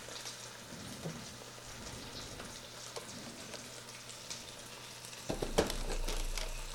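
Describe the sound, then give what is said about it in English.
Sauce is poured through a medium to fine mesh strainer over a bowl with a steady, soft hissing patter that swells near the end into a fuller rush, punctuated by a brief clink. No one speaks. “So what I've got here is a medium to fine mesh strainer over a bowl, a spoon, and you'll see why that's important. And make sure that's on there. I'm going to pour this in there.”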